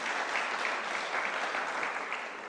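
An audience applauds steadily, a dense wash of many hands clapping at a fairly even level throughout, with no voices standing out.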